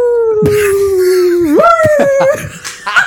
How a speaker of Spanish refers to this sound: Es que parece como un perro con Halloween.